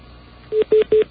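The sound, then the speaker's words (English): A malfunctioning tone on line 10 of a phone system, repeating endlessly and returning when hung up: four loud, steady low-pitched beeps repeating in an even pulse with short gaps, after a brief quiet hiss at the start. No one speaks. “Some bizarre malfunction with our phone system.”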